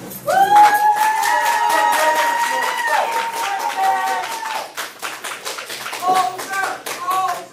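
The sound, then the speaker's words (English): A courtroom crowd erupts in loud cheers and jeers as the judge concludes the hearing, with raised voices shouting over steady, dense clapping throughout, the yelling swelling then breaking into shorter bursts toward the end. “I mean, you can hear the cheers and jeers in the courtroom, almost like this physical release for the victims' families who've just been waiting so long for justice.”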